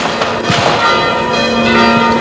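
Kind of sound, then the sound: signal or alarm, church bells ringing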